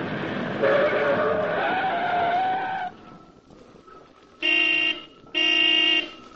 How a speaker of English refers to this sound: Mr. Duncan, Commissioner of Public Buildings, brought his car to a stop before the contractor's temporary office, a small shack standing on the site of a large city construction job.